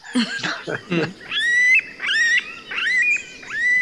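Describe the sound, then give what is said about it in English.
A chorus of forest animals and birds calling at dawn in the forest of a bird-friendly coffee farm: first a few rough, grunting squawks, then a series of loud, wavering whistled cries, with a constant background rustle of wildlife and no talking. “The noise is totally different than outside at the sun, because all the animals producing their songs or their noises in the forest.”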